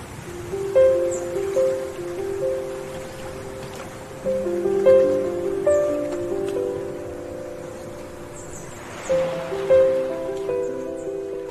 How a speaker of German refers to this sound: also man hört ja die Vögel im Hintergrund, das Meer, dann auch noch diese wunderschönen Klänge.